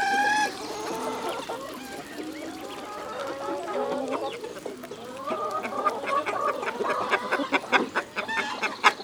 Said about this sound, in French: voilà une poule qui glousse.